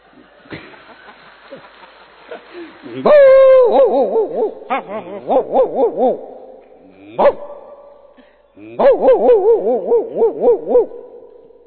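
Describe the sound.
A man's voice imitates a big dog, letting out loud, deep woofing barks in three bursts, each a quick run of rhythmic, throaty pulses with short pauses between.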